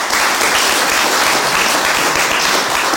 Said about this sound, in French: Applaudissements